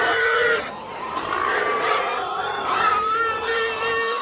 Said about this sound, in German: Da reinzuholen, habe ich eine Tonaufnahme von wie es tönt, wenn eine Herde von Säu nicht eben nur grunzt. Kannst du abspielen lassen. Kannst du ein bisschen läuten, dass man es spürt. Etwa so hat das zu tun.